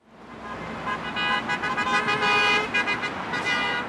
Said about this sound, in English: And this is what a honking wave sounds like on the 101 freeway in the North Valley in Los Angeles. I'm on a pedestrian bridge over LA's notorious rush hour traffic on Friday evening. The sun has just started to set behind the San Gabriel Mountains,